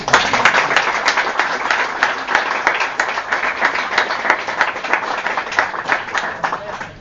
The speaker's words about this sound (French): Donc, on applaudit.